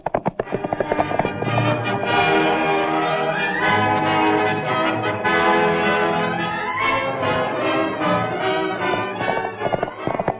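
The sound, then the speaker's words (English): The hooves of a horse named Battle clip-clop in a steady, trotting rhythm throughout, loud, as riders go to look at tracks by lantern, layered over a full, continuous musical backdrop with no clear talking. “Well, wait till I saddle up another horse.”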